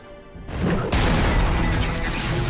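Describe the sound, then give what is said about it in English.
Loud, dense explosions from a video game erupt in quick succession, the blasts building into a sustained roar of crashing, rumbling noise that fills the whole clip with no voices. “Yeah, so many explosions.”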